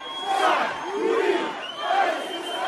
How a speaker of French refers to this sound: À peine les premières estimations connues, la foule des partisans du nouveau président a envahi l'avenue Bourguiba en plein centre de Tunis.